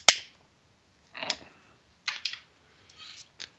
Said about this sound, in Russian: Сейчас пытаюсь прикурить, но зажигалка почему-то не работает.